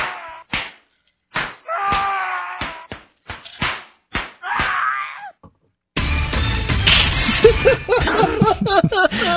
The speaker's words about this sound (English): He gets the bitch slap of the week, man. That's it. And what does that sound like?